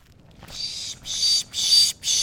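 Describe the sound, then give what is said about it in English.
A birder pishes to draw in birds at dawn in the woods at the edge of Big Lagoon County Park, north of Arcata, California, during a Christmas bird count: four breathy, hissing bursts in a quick, steady rhythm, fairly loud, with short gaps between them and no talking. “making a sound to try to rile up birds. That sound he's making is called pishing.”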